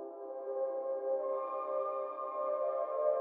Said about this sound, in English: And there it is, quite a boring sound transformed into a nice bathtime pad.